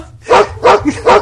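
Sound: dog barking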